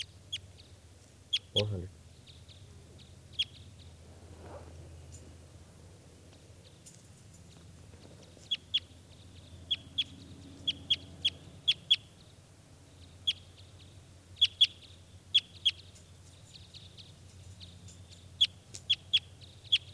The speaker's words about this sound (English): There's a bird.